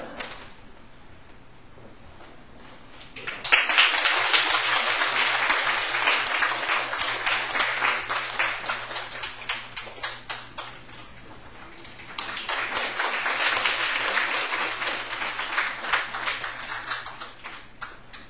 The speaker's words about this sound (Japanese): 教会から、ささやかですけれどもプレゼントがありますのでお渡しさせていただきます。お渡しするときに拍手を持っていただきます。